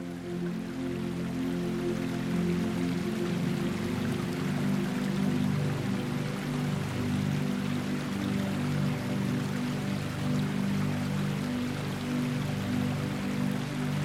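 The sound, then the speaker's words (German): Steady trickling and splashing water from a 2000-year-old spring, running through variously designed watercourses across a garden, continuous with a low murmuring hum beneath, no voices present. “Unterschiedlich gestaltete Wasserläufe leiten das Wasser der 2000 Jahre alten Quelle durch den gesamten Garten.”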